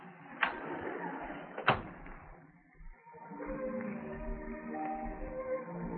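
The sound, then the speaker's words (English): A door is eased shut by someone on their way out, with two soft clicks about a second apart, then a brief hush before gentle background music comes in. “On my way out, I'll close it easy.”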